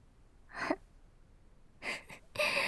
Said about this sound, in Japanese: おっきいあくび。